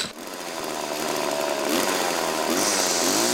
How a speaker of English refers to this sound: And there it is. There's my chainsaw.